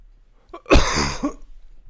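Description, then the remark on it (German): A single harsh, throaty cough bursts out, lasting under a second, with a faint rasp trailing off afterward. “Muss schon wieder husten.”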